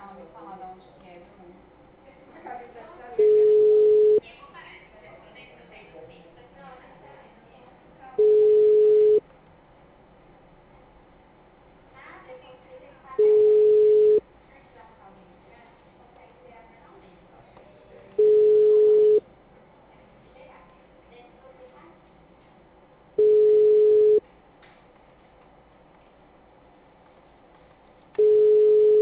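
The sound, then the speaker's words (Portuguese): A telephone ringback tone repeats six times, each steady one-second beep spaced about five seconds apart. The call goes unanswered and is forwarded to voicemail, with faint muffled background murmur between the rings. “Sua chamada está sendo encaminhada para a caixa postal”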